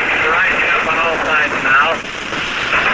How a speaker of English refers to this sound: Here comes more German planes back again.